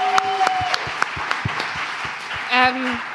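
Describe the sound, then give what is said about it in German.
Live audience applause at an evening event at Schloss Bruch: a loose, fairly sparse run of sharp hand claps, with a couple of short tonal cheers or whoops rising above it near the start and again toward the end. “Deshalb vielleicht einfach mal Applaus auch für euch selber.”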